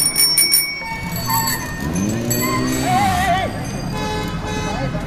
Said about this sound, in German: Schon wieder eine rote Ampel, über die wir gerade rüberfahren. Über eine riesige Kreuzung. Wildes Gehupe. Aber tja, wir haben Vorfahrt.